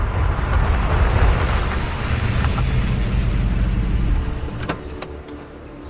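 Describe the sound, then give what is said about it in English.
A car engine rumbles loudly and steadily as the car speeds up a mountain road, then eases off near the end as it parks behind an abandoned SUV, followed by a few sharp mechanical clicks. “Ari and James speed up the mountain road. They park behind Laurel's abandoned SUV.”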